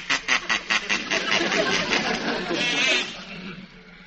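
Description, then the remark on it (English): A toy duck quacks, first in a quick run of short nasal bursts, then in one long, buzzy, drawn-out squawk that fades near the end. “Quack, quack, all the time. Quack, quack, quack, quack.”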